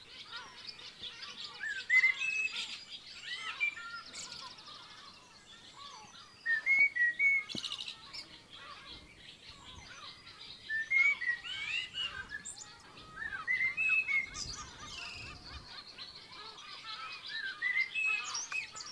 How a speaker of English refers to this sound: Right outside the stable door is a giant old oak tree, right in the middle of the farmyard, and high up in the branches, blackbird.